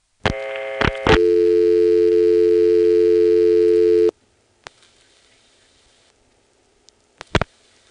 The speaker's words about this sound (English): Then I'll dial 2 more digits. The busy signal comes on, possibly because I'm dialing too slowly or because I dialed something invalid.